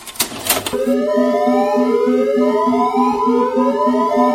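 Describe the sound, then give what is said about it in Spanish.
An electronic alarm siren starts after a brief burst of noise: steady rapid pulsing beeps under repeated rising, wailing sweeps, loud and continuous to the end. “¡Oh, oh! ¡Alarma, alarma!”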